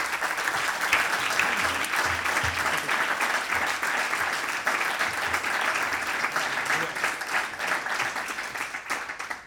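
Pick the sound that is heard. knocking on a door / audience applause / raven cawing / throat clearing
audience applause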